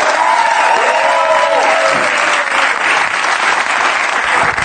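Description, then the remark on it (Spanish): A crowd applauds loudly and steadily throughout as Ricardo Castella is introduced on La Resistencia, a dense wash of clapping with some faint whistles and cheers rising over it early on. “Y ahora un aplauso para Ricardo Castella.”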